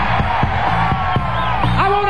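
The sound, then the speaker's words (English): A loud, continuous audience cheers and whoops for the band throughout, with scattered sharp claps and a high rising whoop near the end, dense like an excited audience. “Let's give the band a great big hand working hard for you.”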